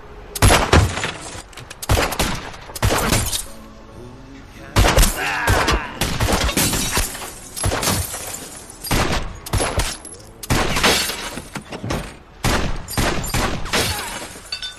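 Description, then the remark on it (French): Loud gunshots crack out in rapid, irregular bursts during a shootout in front of a pork store, some clustered like volleys, with brief gaps and echoing tails between them; faint voices can be heard in the background. “Silvio Dante va tomber dans le coma suite à une fusillade juste devant le Pork Store”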